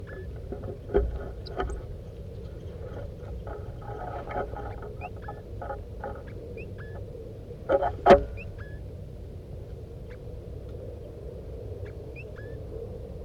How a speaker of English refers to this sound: The other birds, the wild birds, are here now. They're coming around. Stop. Start recording the wild birds chittering.